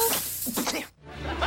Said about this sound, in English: His aerosol finger sprays all over his face.